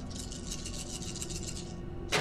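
Dice rattle steadily in rapid, even clicks for about two seconds, as if shaken in a cup, then land with a sudden louder clatter at the end. No voices. They are rolled in a tabletop game to aim a proton pack, after the player spends 4 brownie points for extra dice.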